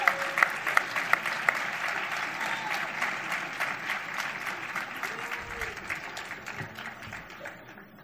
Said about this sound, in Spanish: Podeu seguir aplaudint una miqueta perquè si no això...